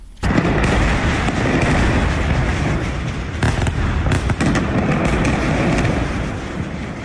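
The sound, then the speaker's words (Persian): Explosions from an Israeli army warplane airstrike on the al-Musaylih area of southern Lebanon, hit more than 10 times at dawn on Saturday: a loud, continuous rumbling roar punctuated by several sharp blasts and cracks, with no voices. “هواپیماهای جنگی ارتش اسرائیل به جنوب لبنان حمله کردند.”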